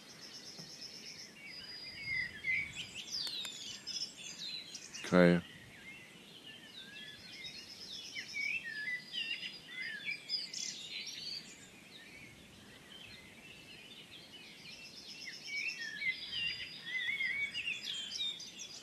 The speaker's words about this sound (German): Kohlmeise permanent. Amsel singt auch noch im Hintergrund.